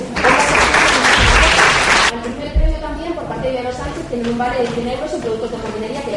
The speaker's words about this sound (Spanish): Aplausos también desde aquí por esa voluntad cromática que han tenido muchísimos participantes.